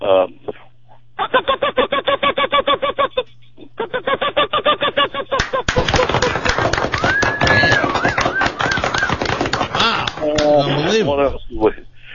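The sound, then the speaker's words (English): A pileated woodpecker, the largest woodpecker in North America, gives a loud, rapid call: two long runs of evenly spaced, ringing notes, followed by a dense stretch of harsher, noisier sound. “And, Pileated woodpecker, the largest in the woodpecker in North America.”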